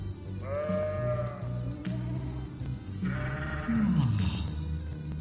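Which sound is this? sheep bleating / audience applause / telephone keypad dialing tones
sheep bleating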